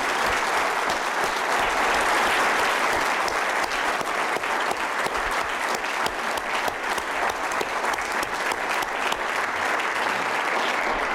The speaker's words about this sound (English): Ama ben genelde ve şunları demek istiyorum ki ve hepinizin yerine şunu demek istiyorum ki ben her zaman burada çok güzel vakitler geçirdim ve hepimiz bu organize edenlere lütfen alkışlayalım.